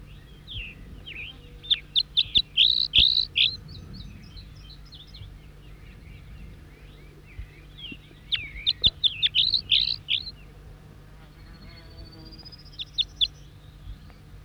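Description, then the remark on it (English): A wild songbird, responding to another bird with the same song phrases, sings bright, high, rapid song phrases in two bursts of trills and chirps, with a softer rising whistle near the end over a low steady hum. “Four, three, and back responding with the same song phrases. Wild bird.”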